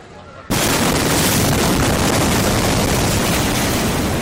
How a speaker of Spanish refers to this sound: 2.700 toneladas de nitrato de amonio sin custodiar en un almacén provocaban una explosión que redujo a escombros y cenizas gran parte de la ciudad.